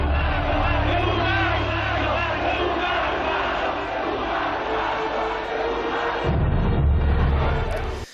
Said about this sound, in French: En 1978, ce ne sont pas les verres qui teintent, mais les cris de la rue.